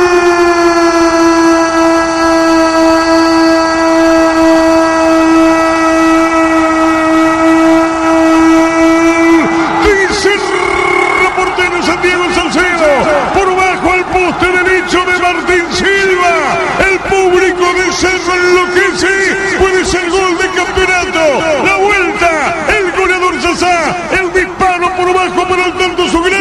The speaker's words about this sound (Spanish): Y Cerro gana 1-0. Sasa, el grito infernal de su público.